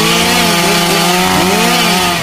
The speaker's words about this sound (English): Oh, hold on. I can barely hear you over the chainsaw. One second.